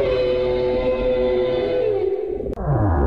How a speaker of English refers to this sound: They rubbed a rubber shoe along a drum skin. They use some bass strings. They use squeaky joints of an ironing board. And they use some donkey noises as well. But it all comes together just to make this really haunting cry. Screech almost, yeah.